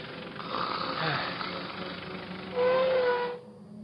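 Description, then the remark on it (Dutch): A car motor idles with a steady rumbling drone, briefly rising to a louder, higher whine before being switched off abruptly, leaving only faint background hiss. “Tom Poes zette de motor af en doofde de lichten.”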